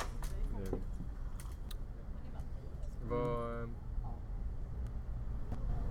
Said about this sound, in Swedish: Man är ute på stan och ja. Bilar och bussar.